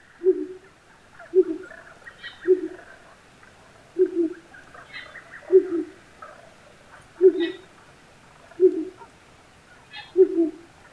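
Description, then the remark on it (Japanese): A male owl hoots repeatedly and low, about once every one to two seconds, at 4 a.m. as it grows light, while small birds chirp faintly in the background of a quiet early-morning setting. “この声は午前4時、薄明るくなった頃です。フクロウのオスが鳴いています。”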